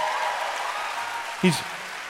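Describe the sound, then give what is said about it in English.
An audience claps steadily for Governor Josh Shapiro, a dense, hissing wash of many hands at a fairly even level, with a brief voiced sound rising out of it partway through. “He's also someone, go ahead and clap for Josh.”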